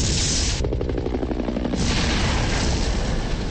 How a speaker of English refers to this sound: His car blows up. And she walks away.